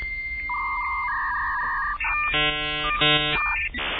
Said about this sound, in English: Oh, look at that. The modem comes through the headphone. So you're getting the modem sounds directly through the mixer. It's now dialing.